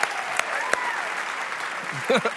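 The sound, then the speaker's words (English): A dense wash of audience applause for both contestants at the end of a game, with a few cheers or whistles rising through it and a voice breaking in near the end. “Let's hear it for both of our contestants who did a wonderful, wonderful job.”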